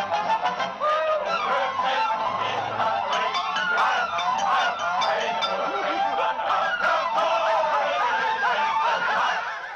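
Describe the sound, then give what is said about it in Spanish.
Frantic, cartoonish duck quacking chatters nonstop for about ten seconds, loud, a rapid stream of nasal squawks and honks that sounds like a voice imitating a duck. “Bueno, y continuamos con toda la travesía del pato en el... hasta que se vuelve loco.”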